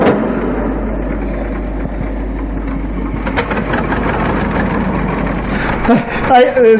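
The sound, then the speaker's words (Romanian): A car engine turns over and settles into a smooth, steady idle, its low hum running constant throughout while people talk over it. “Vezi ce lin pornește.”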